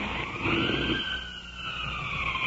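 An ambulance siren wails in the distance, its tone sweeping slowly up and down in a steady, continuous cry with no voices present.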